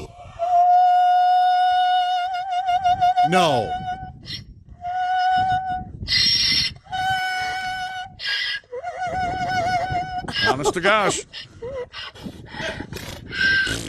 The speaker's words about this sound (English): So Harriet's been Harriet, given a treat. This is no joke. This is a donkey who sings for treats. Her name's Harriet. Okay, here we go.